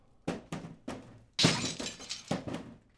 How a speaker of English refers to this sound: Instead of me schlepping it down the stairs, I'll just roll them down the stairs. Here we go, number one.